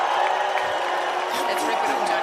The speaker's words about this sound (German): Die wird einfach komplett ausgebucht. Bevor er anfängt. Er wird jetzt, also die gesamte Halle buht diese Handpuppe aus.